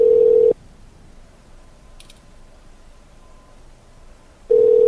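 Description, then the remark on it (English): A telephone rings with a steady electronic tone for an incoming call from an unknown number, in two loud bursts, one at the start and one at the end, separated by a long near-silent pause. No one speaks. “Better answer. Unknown phone number.”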